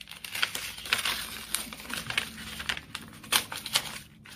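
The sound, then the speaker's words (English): Crinkling and rustling of paper as an envelope is pulled open and unfolded to salvage its paper, with irregular crisp crackles and soft tearing sounds over a few seconds, no voices. “How much paper can we get out of an envelope?”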